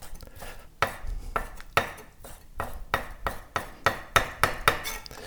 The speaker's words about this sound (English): So now you're just dicing the raw salmon. Yes. The small dice.